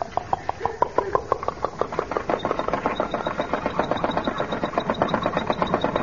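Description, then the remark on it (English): An old car engine, cranked by hand, sputters into life by itself with loose, uneven chugs that quicken into a steady, rapid putter, with a thin high whine creeping in as it keeps running. “Hey, it started by itself.”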